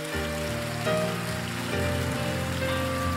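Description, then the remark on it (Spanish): Loud, dense applause from an audience for Jesus, a steady wash of many hands clapping over sustained keyboard chords, continuing without pause for about three seconds with no one speaking. “Dele un aplauso fuerte a Jesús.”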